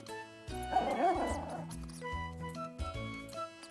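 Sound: puppy barking and yipping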